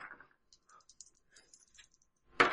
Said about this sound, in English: Well, yes, but I just dropped my dice.